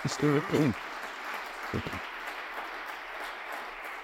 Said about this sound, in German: Es ist seine Deliktpremiere und deswegen darf ich noch einmal bitte um einen großen Applaus bitten. Danke.